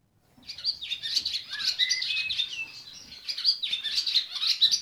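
Swallows twitter in a busy, continuous chatter of high, rapid chirps and buzzy trills, rising and falling in loudness, with no voices, at 5 a.m. in the old stable block of High Ash Farm near Norwich, where 21 swallows have returned from South Africa to nest.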